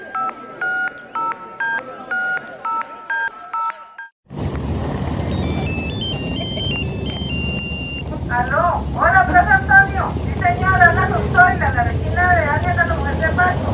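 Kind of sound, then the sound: signal or alarm, telephone ringing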